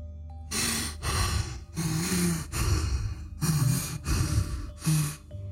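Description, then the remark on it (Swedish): Heavy, labored breathing, with about seven loud, rasping breaths in a steady rhythm of inhales and exhales, each separated by brief pauses. No talking. “Följt av några sekunders tung andning.”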